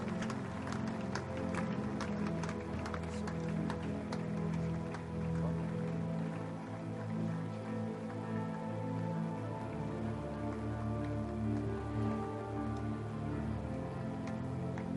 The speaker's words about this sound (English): Oh, if you keep clapping, they will walk faster. If you keep clapping. Si vous continuez à clamer, ils vont marcher rapidement.